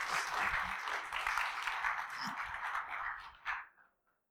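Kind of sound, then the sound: crowd, applause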